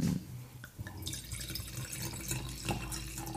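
Schilcher wine, a house brand, being poured into a glass, a steady liquid stream with a bright gurgling rise, audible on its own without any talking.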